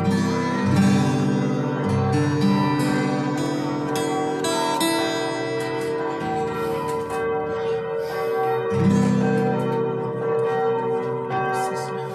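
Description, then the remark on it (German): Church bells peal continuously, several bells overlapping in a dense, resonant clangor with rich ringing overtones, fairly loud and steady throughout, with no voices present. “Mit Glockengeläut.”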